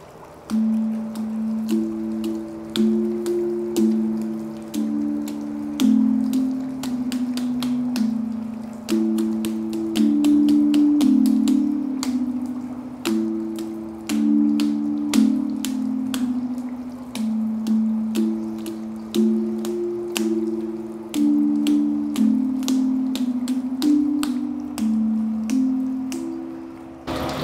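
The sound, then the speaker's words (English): A hydraulophone, an instrument that makes sound from water, plays a slow, steady melody of low, humming organ-like notes, with water splashing and dripping in sharp bursts throughout. No one speaks. “And so this instrument here is a hydraulophone. It makes sound from water.”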